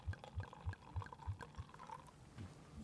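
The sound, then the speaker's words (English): Sour brown ale glugs out of a bottle into a tulip glass in quick, rhythmic pulses, then settles into a steadier, fizzier pour. Fairly quiet, with no talking. “That's some good beer pouring ASMR right there.”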